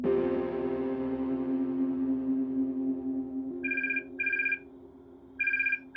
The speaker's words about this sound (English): It's 3 a.m. on September 14th, 1989. And the phone is ringing in Ricky Ott's cabin, high above Cordova, Alaska. But it doesn't wake her.